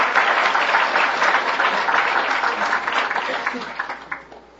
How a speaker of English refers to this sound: Welcome. Let's applaud those other guys, will you? Good.